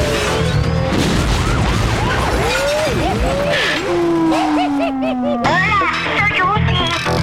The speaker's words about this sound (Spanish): Jala el hito que cuelga de su espalda y desata la más poderosa explosión nuclear.